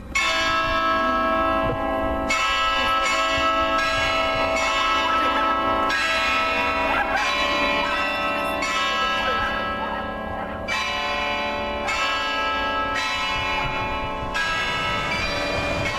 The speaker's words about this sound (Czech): Evo da, zvona Svetog Save, odnosno na hramu Svetog Save, pa beogradska košava koja usput ide.